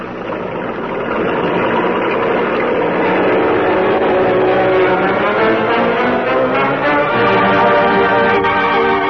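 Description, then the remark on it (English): A car engine hums steadily as the vehicle drives along a road, a continuous loud rumble with rising and shifting tones as it moves, no voices present. “You got the sedan going. I'll drive this truck. Keep trailing me.”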